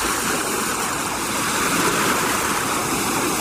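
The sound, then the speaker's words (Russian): A steady, full roar of surf as a big wave strikes the shore and rolls back over small pebbles, a dense hiss of rushing water holding even in loudness throughout, with no voices present. “Самойленко хотел что-то ответить, но в это время большая волна накрыла их обоих, потом ударилась о берег и шумом покатилась назад по мелким камням.”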